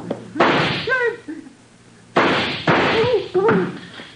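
Gunshots fired at a door lock: about four loud, sharp bangs spaced unevenly across a few seconds, with brief vocal cries and grunts between them.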